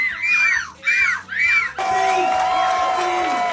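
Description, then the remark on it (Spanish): A voice imitates a seagull with its chick in three rising-and-falling wailing cries, each shrill and strongly harmonic, then a loud burst of crowd cheering and shouting takes over. “Es una gaviota con polluelo.”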